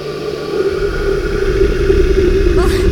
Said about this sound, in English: Don't worry, that's a really soft hiss. The chupacabra's hiss is a loud, unholy howl.